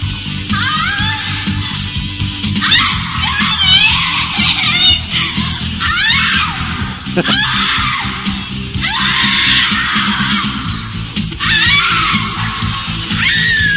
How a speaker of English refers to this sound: Now, even more entertaining than the shitty Beavis and Butthead impressions is the girl in the video screams so loud. It is such a fake porn yell. It really ruins the believability of this film.